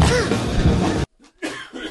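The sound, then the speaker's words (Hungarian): A man coughs on the Jazz Café radio show: one long, harsh, raspy cough, a brief silence, then two shorter coughs in quick succession. “Egy műsor van, amiben ő maga köhög személyesen, az pedig a Jazz Café.”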